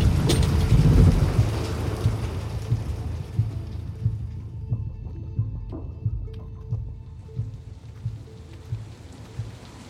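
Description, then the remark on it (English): A storm: a deep, loud rumble of thunder rolls at the start, then settles into steady rain pattering on a surface, with scattered drips and no voices. “I still can't quite believe you walked all that way in the storm.”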